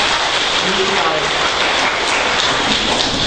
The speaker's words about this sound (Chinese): 哇，谢谢哈，这个来，我们给他们一些掌声哈。